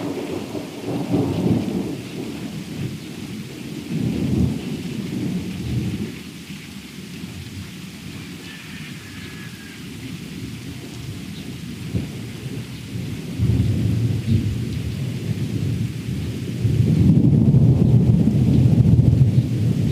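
Deep thunder rumbles roll through steady rain about five seconds after a lightning flash, swelling and fading in long low waves, with a heavier, louder rumble near the end; no one speaks.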